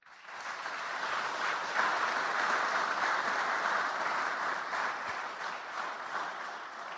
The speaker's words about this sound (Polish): Prosimy o brawa.